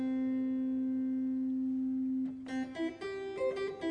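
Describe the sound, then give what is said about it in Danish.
A held note on a harpsichord coupled with an organ, the manual pushed in so one key sounds both: the bright harpsichord twang fades away, leaving a steady organ tone humming on; after a brief pause, several more notes follow in quick, bright succession. “Cembalo-lyden, den klinger så ud, men orgel-lyden bliver jo så ligesom.”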